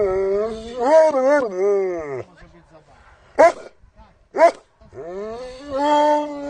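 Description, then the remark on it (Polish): Two starved, badly emaciated rescued German shepherd dogs give long, wavering high whines and yelps, broken by two short, sharp barks in the middle, with low growly undertones running beneath the louder cries. “ostatnie interwencje to były 2 zagłodzone owczarki niemieckie, 3 kundelek”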